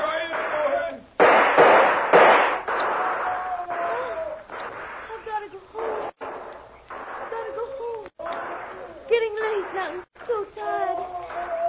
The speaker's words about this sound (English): Now they're shooting wild. Trying to cover their advance.